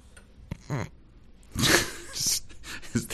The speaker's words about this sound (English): A dog sorry. Again? Another dog. Yes. Another dog ran through the room.